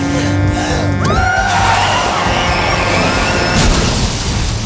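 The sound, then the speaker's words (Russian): A car accident scene from Gabriele Muccino's film Fathers and Daughters: tires screech in a rising, sliding squeal, followed by a loud crash and a sustained roar of noise and debris. Loud, with no talking. “Все началось с автомобильной аварии, в которой погибает жена известного писателя Джейка.”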